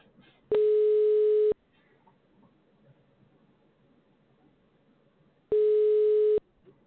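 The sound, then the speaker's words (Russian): A telephone busy signal on a call to the company Glorax: two loud, steady one-second tones sounding several seconds apart, with only a faint low murmur of background noise filling the gap between them. “Абонент сейчас не может ответить на ваш звонок. Его телефон занят.”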